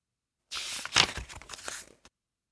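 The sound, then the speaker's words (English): Crisp paper noise lasting about a second and a half: scissors snip and crinkle through a folded strip of paper to cut out a drawn tree shape, with one sharper rip-like burst near the start. No one speaks. “Draw a tree on the paper. Cut it out.”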